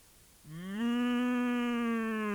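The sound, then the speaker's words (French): A single deep bellow from Fallot, a big American bison kept in a cage, loud, starting after a short pause, rising slightly in pitch and then holding steady as a long, droning moo with no other sounds. “Fait Fallot.”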